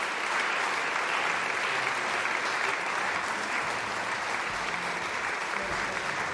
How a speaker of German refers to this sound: Und das Publikum klatscht hier natürlich noch im Jagdsaal des Schwetzinger Schlosses.